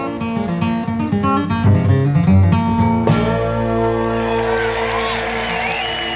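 A live band plays, then lets a chord ring out while a distant audience member yells a song request from the crowd, with faint whoops around it.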